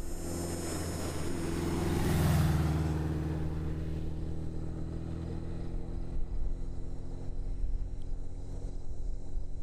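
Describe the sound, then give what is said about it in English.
An older motorcycle rumbles past on a street, seeming to slow down, its engine swelling to a peak within the first few seconds and then fading away, leaving a steady outdoor hum with faint insect chirping. “That was an older motorcycle.”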